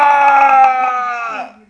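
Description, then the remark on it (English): A person lets out a single loud, sustained scream lasting about a second and a half, tapering off at the end. “I want you to scream like you were just screaming.”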